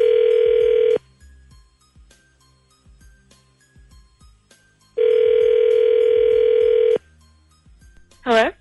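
A telephone ringback tone as the Z Morning Zoo radio show on Z104 places a call sounds as a loud, steady buzzing burst, goes quiet for several seconds with faint clicks, then buzzes again for about two seconds before a short warbling sound at the end.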